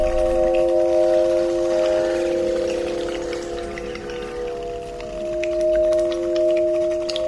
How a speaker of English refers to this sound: Placing bat detectors along the Cherwell River, Robert turned the ultrasonic sound of bats' radar calls into music that could be heard. A light that shone into the river attracted moths and, in turn, bats.